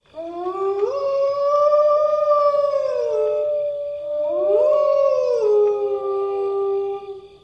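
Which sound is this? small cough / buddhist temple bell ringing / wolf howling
wolf howling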